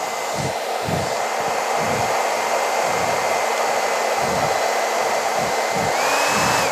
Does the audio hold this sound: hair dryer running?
yes